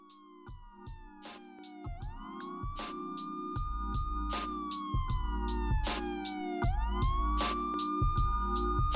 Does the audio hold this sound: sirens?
yes